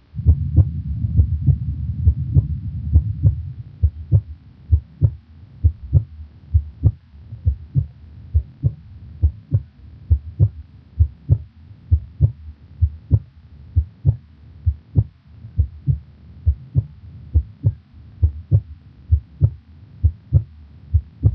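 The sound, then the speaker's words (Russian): Normal heart sounds heard through a stethoscope at the pulmonic auscultation point, the second intercostal space left of the sternum: a steady, regular heartbeat of low, muffled thuds at roughly seventy beats a minute, clear over a soft low hum, with no talking. “В третьей точке аускультации, во втором межреберье слева от грудины, соотношение тонов сердца такое же, как и над аортой.”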